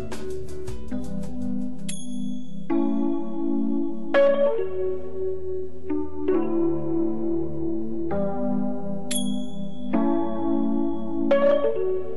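Instrumental opening of a Brazilian pop song: layered melodic instruments over a steady bass, with bright high chiming notes recurring every few seconds at an even, moderate loudness. No voices yet.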